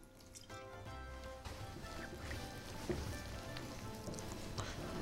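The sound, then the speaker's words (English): Continuous wet sounds of water being added while a dough of flour, salt and proved yeast mixture is mixed by hand, a steady patter and squelch with small drips, no one speaking. “If needed, add more water.”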